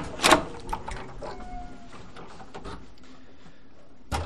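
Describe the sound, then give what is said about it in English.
A heavy vault door, unlocked with a key, swings open with a solid clunk, followed by scattered mechanical knocks and a short metallic squeal, then a final thud as it settles. “We turn a corner, pass a second door.”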